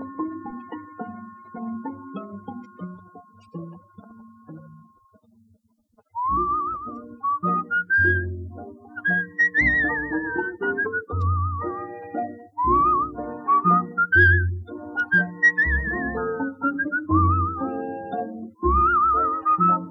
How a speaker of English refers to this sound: Smile and through your tears you'll fall in love anew to the tune of the whistling voice.